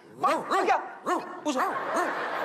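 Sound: dog barking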